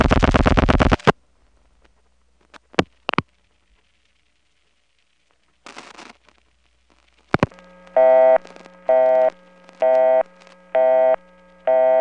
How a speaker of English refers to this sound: Boy, all that explanation and I just got a busy signal.